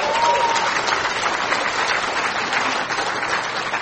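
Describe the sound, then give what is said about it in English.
A crowd applauds steadily, a dense wash of clapping hands that holds at an even, fairly loud level for several seconds with no voices rising above it. “And if you're applauding, I hope you're applauding God, because without him, I wouldn't be here today.”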